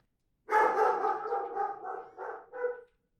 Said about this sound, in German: Sie stolperte über fremdes Grundstück, fiel und fürchtete, von einem drohenden Hund gestellt zu werden.